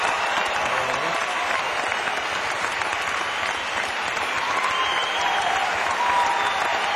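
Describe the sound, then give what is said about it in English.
Sustained audience applause for a musician on stage, filling the whole stretch, a dense, steady wash of many hands clapping at an even loudness with no voices standing out. “And I think you should give him a nice round of applause.”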